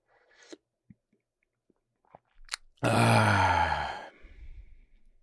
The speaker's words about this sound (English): So, I'm going to take another sip of water here.